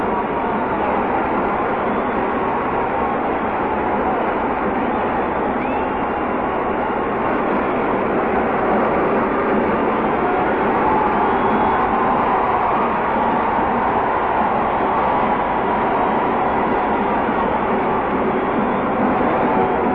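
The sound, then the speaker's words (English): A large convention hall crowd, everyone on their feet, roars and cheers for General Douglas MacArthur at the rostrum without pause, a dense, loud, steady wash of voices and applause that holds at the same level throughout, with no single voice standing out. “Every person in the convention hall seems to be on his feet.”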